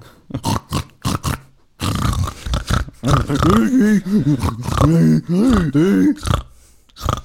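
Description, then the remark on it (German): Pigs grunt in a quick run of short, rough bursts, then give longer, wavering grunts that rise and fall in pitch. The sounds are fairly loud, with no talking. “Das ist wirklich also nein, die Tassen sind vorgerollt und die Schweine sind dahergerollt, weil sie selber die Tassen haben wollten.”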